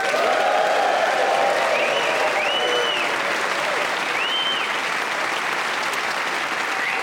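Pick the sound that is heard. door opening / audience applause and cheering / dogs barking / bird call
audience applause and cheering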